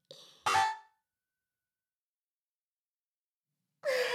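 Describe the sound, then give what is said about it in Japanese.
A crisp mechanical click-clack of a smartphone camera shutter taking photos of a sleeping husband's face, heard twice: once at the start and again near the end, separated by about three seconds of silence. Fairly loud, no talking. “旦那様の寝顔をスマホで撮影しちゃえ。”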